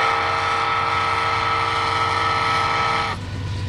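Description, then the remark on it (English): An automated wayside horn at a railroad crossing in Gearing, Nebraska, part of a Federal Railroad Administration pilot program, sounds as a train approaches: one long, steady, loud blast with a rich, buzzing chord over a low rumble, then cuts off abruptly, leaving only the rumble. “So only those closest to the crossing hear this as the train approaches.”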